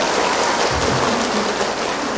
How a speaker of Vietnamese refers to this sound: Mọi người hoan hỉ ha, hoan hỉ cho một tràng pháo tay rồi,